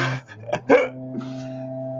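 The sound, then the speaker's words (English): A dog lets out two quick, sharp barks in close succession, moderately loud, over a steady low background hum, with no one speaking. “This is perfect timing right when we're doing this. But anyway, so what is... Dog hasn't dug them up yet.”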